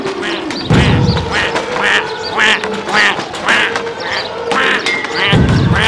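Several ducks quack repeatedly in a noisy, overlapping chorus, the calls loud, with a steady rumbling background throughout.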